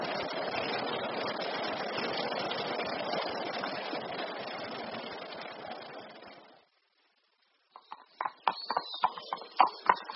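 animal, horse hooves galloping

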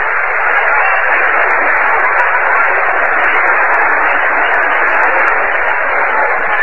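crowd, baseball stadium crowd cheering

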